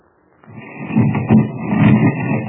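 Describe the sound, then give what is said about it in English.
A harsh electric buzz sounds as a buzzer is pressed, then a heavy stone door at the end of a dimly lit, damp passageway on Volcano Island grinds open with a low, rumbling scrape that swells and holds for about two seconds. “Now, when I press this buzzer, the stone door will swing open.”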